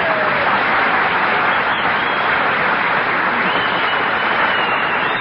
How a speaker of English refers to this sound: Oh, you hear that whistling? Sounds like Whistler's brother out there.